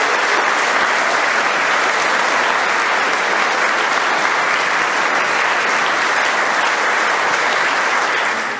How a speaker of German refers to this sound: Applaus